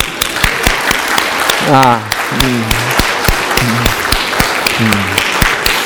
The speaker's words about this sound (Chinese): 我愿意这个我们弟兄姐妹当中所有26岁周岁以上的姊妹们，请你们起立。26周岁以上好，其他人鼓掌。